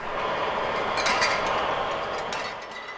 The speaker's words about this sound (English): We're now at the mixer, another antique with five stocky arms that each latch onto a bottle and swing it up and down